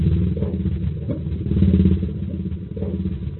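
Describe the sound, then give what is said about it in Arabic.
An engine is started with an ignition key, turns over and runs with a rough, throbbing low rumble. It swells in loudness midway, dips briefly, then keeps chugging steadily with no voices. “مفتاح البداية.”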